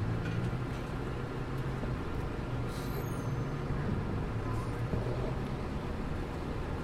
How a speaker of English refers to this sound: And we're listening to buses.